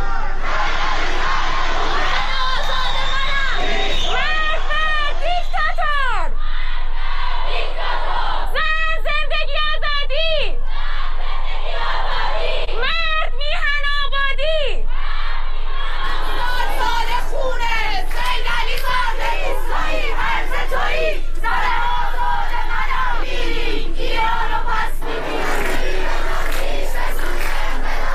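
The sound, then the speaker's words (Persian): A large protest crowd in Iran chants and shouts slogans in loud, rhythmic bursts of many voices, with pauses of murmuring and scattered yelling in between, continuing steadily throughout, during protests on Wednesday, 11 Aban. “تصاویر، ویدیوها و گزارش‌های منتشر شده در شبکه‌های اجتماعی حاکی از ادامه اعتراض‌ها در شهرهای مختلف ایران از جمله تهران، مشهد، تبریز، نوشهر، قزوین و سنندج روز و شب چهارشنبه 11 آبان است.”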